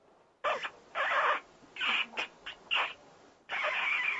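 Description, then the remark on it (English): A ritual horn of the kind blown during temple puja, blown in several short, uneven blasts, each a thin, high, squeaky wheeze with breathy noise, separated by brief gaps and followed by one longer blast; no talking. “they try and blow them, and it makes this rather strange, squeaky noise.”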